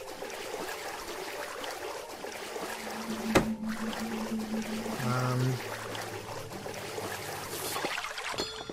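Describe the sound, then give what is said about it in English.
Continuous watery swishing and sloshing, like a game character swimming, runs steadily throughout, with a sharp click partway through and some low electronic tones and hums layered underneath. “Alright, now I swim.”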